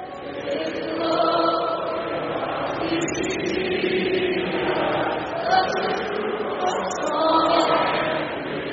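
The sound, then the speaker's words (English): A large arena crowd in Buffalo sings O Canada together at a Buffalo Sabres game against Boston after the singer's microphone malfunctioned, a dense mass of voices holding long notes, with the volume swelling at the start and again near the end. “But the crowd at the arena in Buffalo stepped up in a big way. They belted out the anthem themselves.”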